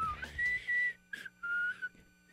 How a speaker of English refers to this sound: You can't even blow whistle. You have to suck whistle. What? Go ahead. But it's good. Showcase your suck whistling for the audience.